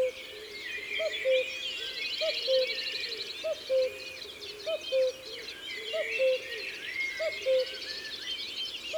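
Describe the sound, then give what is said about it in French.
A common cuckoo calls its two-note 'cu-coo' over and over at a steady pace, fairly clear, above a busy chorus of higher-pitched songbirds twittering in the background. “On l'entend partout en ce moment, mais on ne le voit presque jamais.”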